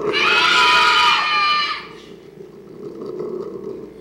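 A crowd of people from Salt in Maine, screaming on cue, lets out a loud, high-pitched scream that lasts about two seconds, then trails off into a low murmur of chatter and scattered voices.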